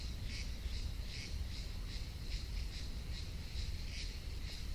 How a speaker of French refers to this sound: Et ça et là, on entend quelques oiseaux.